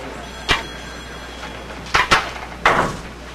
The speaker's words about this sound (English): Shut the door. Eddie closes the door.